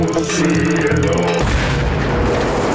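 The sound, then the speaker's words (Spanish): A short tonal, musical passage gives way to a huge nuclear explosion, a loud roaring boom that rumbles on without fading until the end. “Jala el hito que cuelga de su espalda y desata la más poderosa explosión nuclear.”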